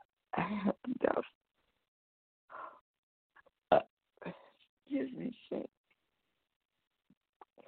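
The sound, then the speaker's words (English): Several short, guttural belches erupt in irregular bursts, some croaking and drawn out, separated by brief silences and a few faint throaty noises. “Saints, I'm still belching”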